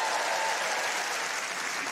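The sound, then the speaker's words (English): An audience claps in answer to being asked who has children, a steady, dense wash of many hands applauding at once, fairly loud and sustained for the whole moment with no voices standing out. “Round of applause, you got children?”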